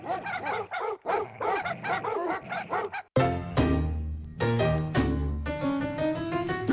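A dog barks in a quick series of sharp, loud yaps for a few seconds, then the barking stops and music takes over.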